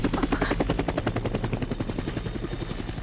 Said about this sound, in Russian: Бомбить будут? Фейерверки снимают. Сегодня же праздник. Фейерверки? Фейерверки.